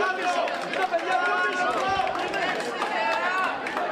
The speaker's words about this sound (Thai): ประชาชนชาวกรีกต่างส่งเสียงเชียร์ให้กำลังใจนายกรัฐมนตรีอเล็กซิสซิปราสที่เดินเข้าคูหาลงคะแนนชานกรุงเอเธนในวันอาทิตย์เพื่อลงประชามติว่าจะยอมรับเงื่อนไขเพิ่มมาตรการลดรายจ่ายของรัฐบาลแลกกับเงินช่วยเหลือก้อนใหม่จากสหภาพยุโรปหรือไม่